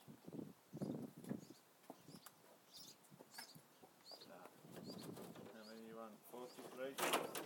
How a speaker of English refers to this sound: We've got some chicks. I'm not sure what kind of birds they are. But they're in our... like, gutter eaves kind of thing.